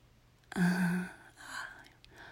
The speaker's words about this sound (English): The gasp of breath as I break this barrier, this unspoken taboo.